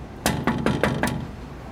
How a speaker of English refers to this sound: I'm gonna knock.